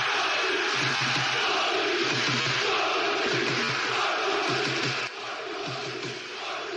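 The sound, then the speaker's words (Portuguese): A large crowd of Sporting football fans in Lisbon, Portugal, shouts and cheers celebrating the club winning the league championship, a dense, loud roar of many voices with rhythmic chanting pulses, easing slightly near the end. “Em Portugal, após 19 anos de jejum, a duas jornadas do fim do campeonato, os adeptos do Sporting puderam começar a gritar.”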